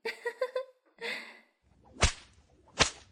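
Two sharp, loud whip cracks land about a second apart near the end, following a whooshing swish and a few short voiced sounds at the start.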